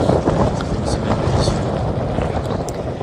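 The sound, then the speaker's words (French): Heavy wind buffets the microphone in a constant, loud rumble, with gusts surging and roaring throughout the few seconds, during a whiteout on a polar expedition about 1000 km from the South Pole. “On entend dans les bourrasques de vent, je sais pas pourquoi je fais ça, j'ai dû faire 8 km aujourd'hui, je suis à 1000 km du pôle sud, le redoutable whiteout auquel vous avez eu à faire face”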